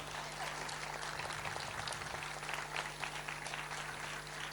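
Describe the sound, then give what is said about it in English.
An audience warmly applauds steadily for several seconds to welcome two speakers at an event about a payment system for refugees, a dense, crackling wash of many hands clapping at once with no pauses, holding an even loudness throughout and no voices rising above it. “They will, with a warm applause, please. A bit warmer.”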